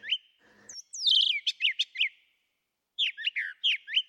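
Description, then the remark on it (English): A brown thrasher sings in loud, varied bursts of rich whistled and buzzy phrases: a short burst, then a pause and another run of paired notes, with no voices present. “On the East Coast, the brown thrashers are around in kind of scrubby field types of areas.”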